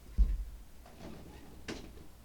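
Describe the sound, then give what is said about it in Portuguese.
A door is pushed shut, with a soft low thud followed by a few faint knocks and a sharper latch click about a second and a half later. “Cara, deixa eu fechar a porta aqui, o cachorro tá latindo.”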